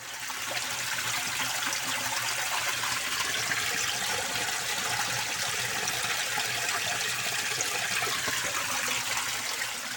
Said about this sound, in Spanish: Nos despedimos escuchando el hilo de agua que aún corre en nuestros campos. Es agua limpia, es agua fría. Es una naciente en la Sierra de las Cañas, no muy lejos de aquí.